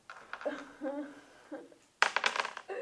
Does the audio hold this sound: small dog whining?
no